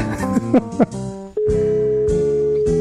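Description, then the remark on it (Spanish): A few brief, wavering electronic tones give way to the steady, mid-pitched ringback tone of an outgoing phone call that keeps ringing unanswered, holding continuously at moderate loudness, with no voices. “Sí, sigue sonando.”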